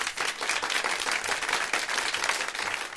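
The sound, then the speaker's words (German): A short, steady burst of applause from one person, given as congratulations, with rapid claps running together into a dense, even patter for about three seconds, with no talking. “Ja, okay, herzlichen Glückwunsch, kriegst einen kleinen Applaus von mir.”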